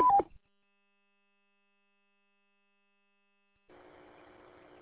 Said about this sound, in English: Turn that Roger beep off. It sounds like crap.